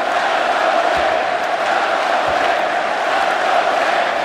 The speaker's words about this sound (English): Crowd serenading their team now. Let's go, Knicks.